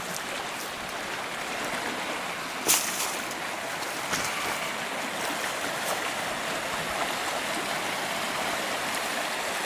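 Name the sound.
flowing stream water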